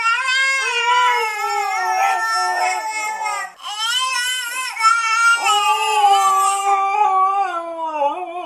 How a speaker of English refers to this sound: And now for your listening pleasure, a baby and a husky imitating each other.